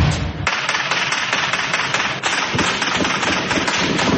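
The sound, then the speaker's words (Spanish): A dense, continuous barrage of rapid gunshots and grenade blasts crackles without pause, loud, with sharp overlapping pops filling the whole stretch and a brief lull partway through, as members of the Dagoberto Ramos column attack police in the centre of the municipality of Silvia, Cauca. “Integrantes de la columna Dagoberto Ramos llegaron hasta el centro del municipio de Silvia y atacaron a la policía con disparos y lanzamiento de granadas.”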